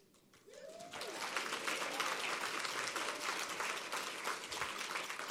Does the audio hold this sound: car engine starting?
no